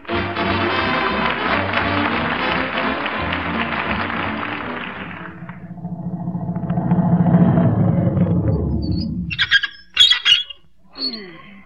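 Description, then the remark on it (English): A car engine rumbles as Fibber McGee and Molly drive up to the entrance of the Breakers hotel on Lake Lulu, slowing to a stop and ending in a few sharp, high-pitched brake squeals. No one speaks. “Get them brakes fixed.”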